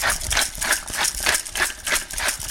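A pepper mill grinding fresh black pepper, giving a steady run of gritty, crackling grinds in quick rhythmic bursts that continue throughout without any talking.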